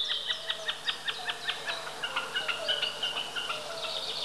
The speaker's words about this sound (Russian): Слышите, словно барашек блеет. Это высоко в голубом небе такует бекас.